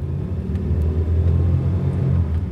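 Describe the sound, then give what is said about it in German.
A steady low engine rumble from inside a black taxi, an unofficial suburban car taxi, driving over a rough dirt track through fields, with faint bumps and rattles and no one talking. “Im Auto geht es über einen Feldweg.”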